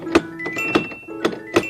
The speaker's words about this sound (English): Hey, did you knock on the clock? Yes, I sure did. You know what? I could hardly find it.